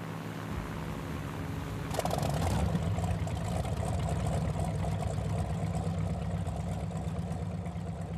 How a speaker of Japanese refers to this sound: こんな草の中でなぜボートを止めさせる。 おい、エンジンを切るんだ。音を出すな。